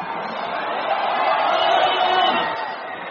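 A huge crowd at a Labor Day stadium concert in Tianjin, China, in a venue holding 42,000 people, roars and cheers continuously, a dense, loud wash of many voices that swells slightly in the middle and holds steady for the whole stretch, with no single voice standing out.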